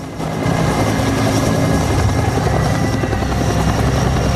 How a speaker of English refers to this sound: A helicopter lands on the street, Marines tending to a wounded soldier ducking down as a blast of dusty wind sweeps over them.